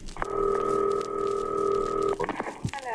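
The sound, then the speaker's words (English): A long-distance telephone call to Chicago being placed: a steady, fairly loud line tone holds for about two seconds, then cuts off into a few brief clicks and faint rustling, with no voices. “Now, we're going to call Chicago tonight.”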